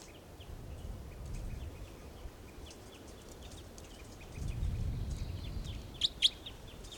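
Several birds call nearby over a low rumbling background, with a sustained chorus of thin chirps and two sharp, loud calls standing out near the end; a toucan is among them.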